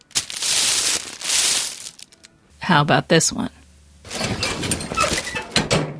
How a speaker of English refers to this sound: Is there a woman in the world who welcomes the sound of that hard paper liner and the foot stirrups coming out of the examining table? Yes, I went to my gynecologist recently.